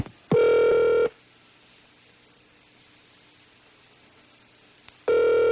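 A telephone call is dialed and the line rings: a loud, steady buzzing ring tone sounds for under a second, followed by about four seconds of faint line hiss and hum, then the ring starts again.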